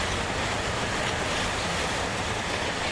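A steady, loud rush of train noise fills the whole stretch, a dense rumble and hiss of a train moving on rails, with no voices.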